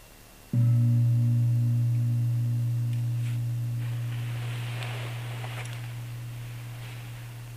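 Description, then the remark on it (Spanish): A single meditation gong is struck once and rings out with a deep, steady hum and bright overtones, slowly fading over several seconds with no voices present. “Cuando suena el gong y empezamos a observarlos, los dejamos venir, los dejamos irse.”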